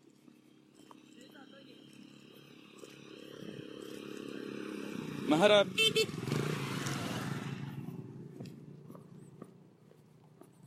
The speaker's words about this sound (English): Unfortunately, it became a bit of a mix-up, because, oh, sorry, motorbikes.